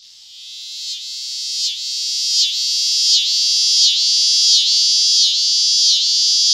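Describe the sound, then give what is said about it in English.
A rising drone of cicadas in trees on a hot midsummer day, a shrill, continuous buzz that swells steadily louder with regular pulsing surges under a second apart, unbroken with no other sounds. “On midsummer days, you'll hear the rising drone of cicadas in the trees as the temperature gets hotter.”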